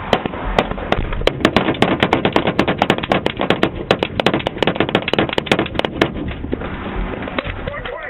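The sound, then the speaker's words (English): A long, rapid volley of gunshots from an officer-involved shooting beside northbound I-15 in Utah County, recorded by a dash cam: dozens of sharp cracks fired in quick irregular succession, loud, thinning out toward the end, with a muffled, low-fidelity recording quality. “That sound comes from a dash cam recording of last month's officer-involved shooting alongside northbound I-15 in Utah County.”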